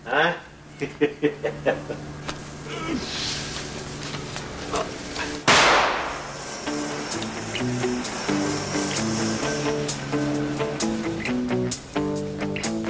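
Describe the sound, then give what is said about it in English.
Firecrackers pop in a quick, uneven burst of sharp cracks in a film scene featuring Alfred Molina, then one loud bang cuts through, followed by a stretch of melodic music with a few faint pops scattered underneath. “It's Chinese. That's why life's letting out firecrackers.”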